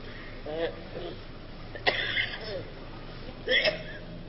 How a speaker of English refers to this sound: Daddy has a bad cough.